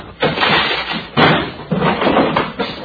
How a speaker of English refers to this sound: Keep your guns drawn. We'll break the door down.